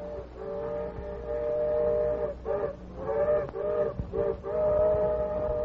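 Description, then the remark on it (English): A railroad engine's whistle sounds in the distance in long, steady harmonic blasts, broken by a few short pauses and brief hoots before one last sustained call. No voices. “The Lone Ranger heard the engine's whistle in the distance and placed three of the torpedoes at intervals along one rail.”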